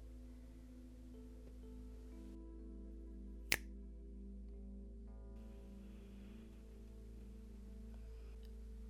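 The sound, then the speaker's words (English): A single crisp finger snap rings out, sharp and brief, over a steady low droning hum with no talking. “And when I snap my fingers again, I want you to say these words out loud.”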